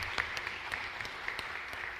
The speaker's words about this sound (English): Now you can clap.